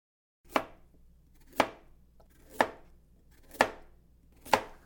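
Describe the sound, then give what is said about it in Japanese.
A knife chops through meat on a cutting board, cutting it into bite-size pieces in five evenly spaced, sharp, clear thuds, with a faint background hum and no talking. “すごい、包丁さばき。あっという間にお肉が一口大に。”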